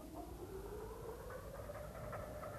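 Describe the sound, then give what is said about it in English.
The Autocarril, a small rail motor car with a limousine body, small-locomotive chassis, cow catcher and steel wheels, runs its engine steadily at a railway station in Bolivia while still dark, bound for Oruro: a low rumble with a whining tone that slowly climbs in pitch, fairly quiet and continuous, no voices. “The Autocarril has the body of a limousine and the chassis of a small locomotive, with a cow catcher and steel wheels.”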